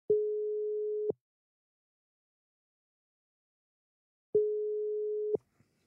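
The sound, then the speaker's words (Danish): A phone ringback tone sounds twice while calling a man: a steady, fairly loud one-second beep, then a few seconds of silence, then the same beep again. No voices are heard. “Så prøver vi sgu at ringe til ham også.”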